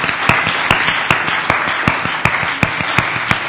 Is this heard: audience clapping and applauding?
yes